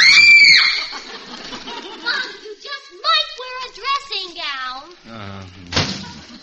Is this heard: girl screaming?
yes